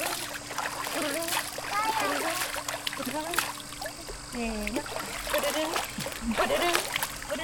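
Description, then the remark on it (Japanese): Water splashes and sloshes repeatedly, with a child's voice chirping and murmuring over it, as a baby's small face is washed in a bath. “お顔もちょっと洗ってみるか。”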